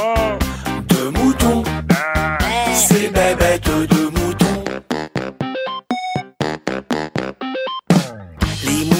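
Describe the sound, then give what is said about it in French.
A flock of sheep bleating loudly, many wavering calls overlapping at first, then thinning into shorter, choppy bleats separated by brief pauses. “Un mouton, c'est bête un mouton.”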